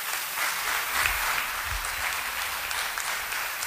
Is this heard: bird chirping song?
no